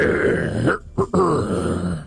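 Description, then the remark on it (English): A cat retches with harsh, throaty heaving and gurgling, breaking off for a brief pause before another strained, gagging heave continues. No one speaks. “Is he barfing? Is he barfing? The barfing cat there, barfing.”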